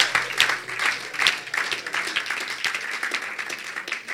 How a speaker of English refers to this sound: Clap for the Lord Jesus!